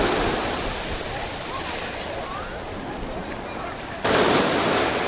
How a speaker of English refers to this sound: And since I live so close to the ocean, I like to, you know, pay a visit to the beach every once in a while and see how it's going out here.